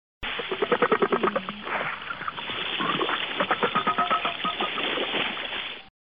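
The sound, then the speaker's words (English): A gray whale's conga-like call: quick trains of low, drum-like knocks in rhythmic bursts, rising and falling in loudness over a steady, muffled underwater hiss. “One of the most common types of sounds gray whales make is a conga-like sound.”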